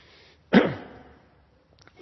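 A single loud, sharp sneeze bursts out suddenly and trails off quickly, followed by a faint rustle amid quiet.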